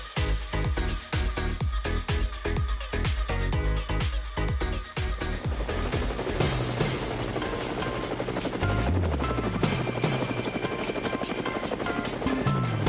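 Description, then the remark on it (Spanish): A helicopter in flight with people riding aboard, its rotor beating in a loud, rapid, steady thump that gives way to a continuous engine roar and whine as it keeps flying. No voices. “sí nos montamos en el helicóptero, pero no llevamos ni avestruz, ni jicoteas, ni nada de esto raro.”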